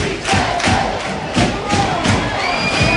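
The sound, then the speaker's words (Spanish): Football fans of San Roque de Lepe and Recreativo de Huelva chant loudly in unison across a stadium at the Huelva derby, San Roque de Lepe fans shouting 'sí se puede', a dense crowd roar with rhythmic shouted bursts and thumping beats repeating about every second or so. “Sufre la entidad de Albiazul, responde la afición del Recre, animando a los suyos, y la afición del San Roque de Lepe a los gritos de sí se puede. Este es el ambiente en el derbi onubense.”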